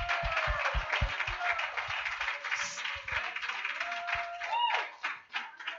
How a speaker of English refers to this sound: If God has picked you up out of the miry clay, if he's set your feet on a firm foundation, if he's delivered you, if he's set you free, would you clap your hands to him tonight?